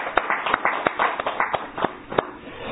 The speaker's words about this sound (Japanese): お父さんが満90歳を迎えられましたので盛大な拍手でお願いします。